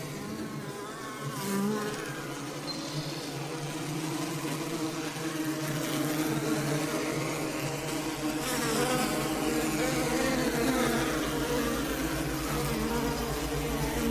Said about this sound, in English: But not nearly as activating as the bees. The bees are like totally activating with the buzz. A really cool way too.